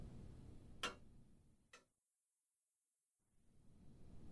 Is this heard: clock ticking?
yes